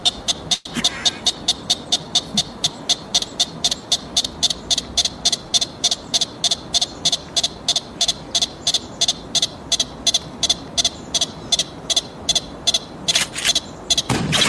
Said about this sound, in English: And they make a chirping noise to warn their compatriots when stuff is up. You know, it's like helping other pikas out. This is 59, I believe, consecutive chirps. And at the end, even the pika is tired of it.